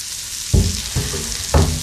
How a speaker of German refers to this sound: Hört sich das nach Grillen an oder nach Regen? Ich bin mir nicht ganz sicher. Es sollte auf jeden Fall Grillen darstellen und allein wenn ich an dieses Wort denke, läuft mir das Wasser im Mund zusammen.